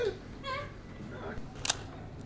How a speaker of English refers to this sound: That was Stephen's shutter. ME Super Pentax.